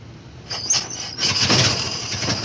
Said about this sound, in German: Angelassen wurden Autos, wie in jedem guten Sturmfilm zu sehen, mit einer Kurbel.